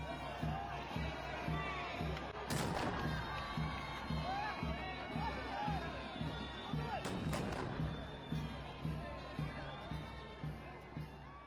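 Two loud cannon blasts of a ceremonial salute, fired in honour as the flag is raised and salute music plays in Mazar-i-Sharif, ring out a few seconds apart over the steady murmur and cheering of a large outdoor crowd.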